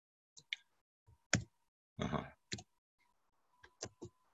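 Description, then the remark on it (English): Irregular keyboard clicks and clacks, a handful of sharp keystrokes with one longer rattling press in the middle, fairly quiet, with a faint steady tone between some of the presses. “My 2 keyboards issue here.”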